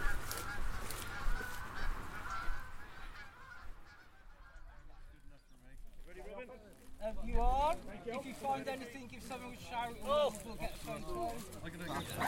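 A flock of geese honks repeatedly, their harsh calls overlapping in a busy chorus after a stretch of windy outdoor rumble.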